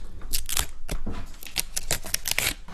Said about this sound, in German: Wenn du da für die Fans zu Hause die Flasche öffnest, werde ich mal Gläser holen.